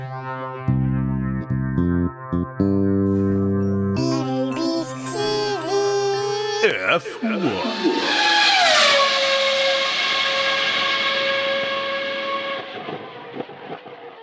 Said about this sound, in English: Please find attached for your consideration a jingle I made with my daughters for ABCDF1